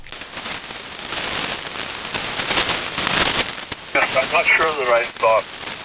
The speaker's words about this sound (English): Strongly up here, but occasionally there is some weird interference on this frequency.